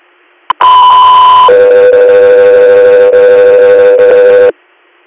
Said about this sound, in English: Echo 3 here, stand by for tone.